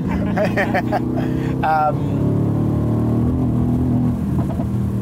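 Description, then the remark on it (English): A Mercedes-Benz car engine drones loudly and steadily, its low rumble building as the vehicle accelerates, with brief voices over it near the start. “It's so powerful, this car, that if it's a little slippery”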